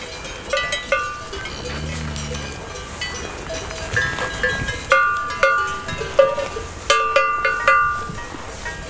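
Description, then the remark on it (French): Cowbells from a herd of cows in the mountains, some lying on the ground chewing the cud, clank irregularly, several bells overlapping in a steady jangle of metallic tones, with a low lowing or grunt from a cow early on and no one speaking. “Les vaches, en partie couchées sur le sol, ruminent. C'est la vie de la montagne.”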